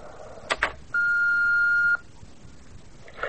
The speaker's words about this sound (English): I'm sorry, there's no one here to take your call, but if you'd like to leave a message for Nina or myself, please speak after the beep.